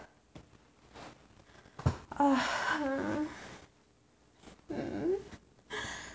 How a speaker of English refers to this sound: I can feel it building. Starts as a tightening in my belly. Works its way down. Breathing harder. Quick deep breaths.